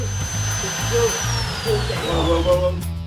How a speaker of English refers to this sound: Once the robbers had got into the vault, this is during the nighttime raid, they began drilling. They encountered a serious problem. The thick steel door was virtually impenetrable.